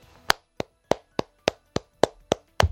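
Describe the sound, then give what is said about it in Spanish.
A single person claps their hands about nine times in a steady, slightly deliberate rhythm, applauding politician Pablo Casado during a political speech, each clap sharp and crisp, with quiet gaps between them and no talking. “Mi aplauso, mire.”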